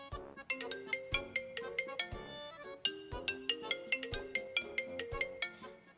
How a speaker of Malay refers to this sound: iPhone tapi masih guna ringtone yang macam ni.